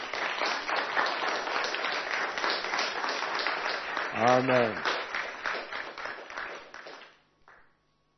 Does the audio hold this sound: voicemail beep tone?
no